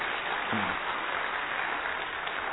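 A crowd claps steadily, a dense wash of many hands applauding together for a couple of seconds as a guest is called up, with a brief voice murmuring underneath near the start.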